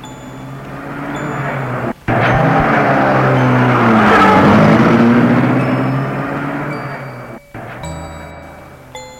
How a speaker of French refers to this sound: Le chauffeur entre dans la voiture et la met en route.